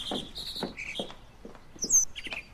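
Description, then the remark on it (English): A mockingbird sings a quick run of varied chirps and short whistled phrases, high-pitched and changing rapidly, with one sharper, brighter note near the end; no one speaks. “It's a mockingbird.”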